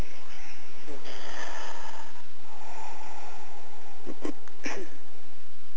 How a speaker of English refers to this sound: Palms together at the center of the chest. Long, deep breathing.